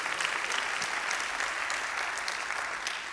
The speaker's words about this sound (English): Somebody clap your hands and thank God for the benefits.